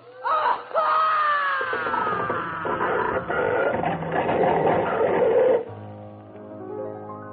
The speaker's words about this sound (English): As the wind increased in fury, the bridge began to turn and twist. Suddenly, I heard the horrible sound of splitting timbers.